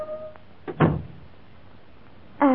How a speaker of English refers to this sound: when at 5:30 o'clock on a rain-swept evening, the door of this very room stood swung open, and Peter Standish stood before Miss Kate Pettigrew.